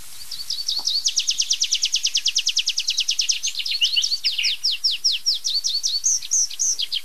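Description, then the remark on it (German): A clear song of a tree pipit, sung alone: a fast, even trill of bright notes shifts into slower, looping whistled phrases with 'zia-zia' notes and ends in an ornate final flourish. “Und das war so eine schöne Abschlussstrophe. Sehr verschnörkelt, noch eins draufgesetzt am Ende.”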